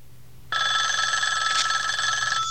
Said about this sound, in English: At the sound of the phone, the two dogs perk up, and Columbo looks intrigued. He looks at the phone ringing in the next room, then back at the dogs.